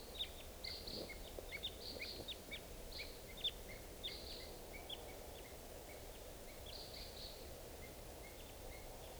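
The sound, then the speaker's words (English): Type 2 red crossbills, two birds and then three or four responding, coming around at 6:55 in the morning, giving sharp, high kip calls in quick, scattered bursts over a steady low rumble. The calls are busiest early, then thin to a few faint notes. “It's 6:55, and I hear crossbills, type 2s coming around.”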